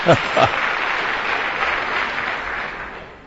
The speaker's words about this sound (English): And that's the best applause I've heard in a generation.